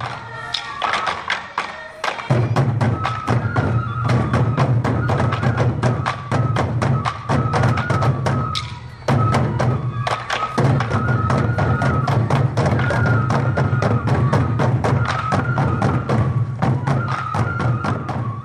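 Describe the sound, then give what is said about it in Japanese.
Sansa dance taiko drums played in a steady, driving rhythm by this year's Miss Sansa drum group practising in Morioka for the Morioka Sansa Odori festival, with sharp struck hits over a sustained low boom and a bright melodic line above, loud throughout with brief pauses. “今日は今年のミスさんさ太鼓連の皆さんが練習している音をお届けします。”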